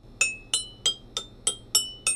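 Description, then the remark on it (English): Seven bright taps on glasses arranged as a musical scale ring out at a steady pace, each with a clear, chiming tone whose pitch shifts from note to note, high, low and in between, with no voices. “You can keep it random, which is really fun, or you can organize them and create a scale. There's the high one, low one, in between. That's even lower.”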